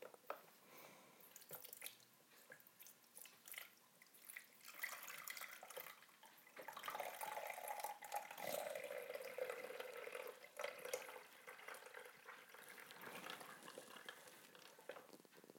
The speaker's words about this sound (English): So first, I'm going to pour the water into the tank.